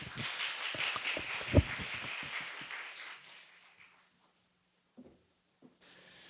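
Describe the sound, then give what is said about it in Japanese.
An audience claps to welcome a guest speaker, a dense, crackling burst of applause that fades out after about three seconds, followed by a few isolated soft thumps and near silence. “皆さん、神様への感謝を込めながら、また先生に歓迎の思いを込めて拍手でお迎えいたしましょう。”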